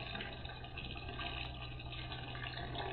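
A bathtub fills with hot running water, with Cuban bath salts poured in: a steady, dense rushing and splashing that continues without a break, moderately loud, with no voices.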